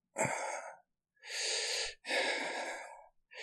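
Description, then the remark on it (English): Three loud breathy gasps from a man follow one another, each a drawn-out, airy inhale or exhale with brief pauses between, with no words spoken. “But no, I let you just have your fun teasing me as I moan and gasp.”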